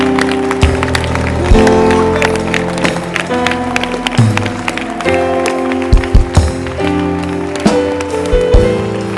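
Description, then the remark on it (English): An audience claps their hands together, a dense, continuous patter of many hands lasting several seconds, fairly loud, over a sustained musical drone. “Put the book down and clap.”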